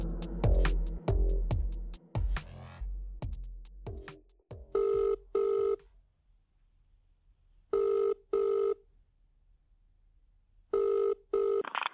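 A telephone rings in a repeated double-burst pattern, three rings spaced a few seconds apart, clear, after a stretch of loud thumping and clattering sounds. No one speaks.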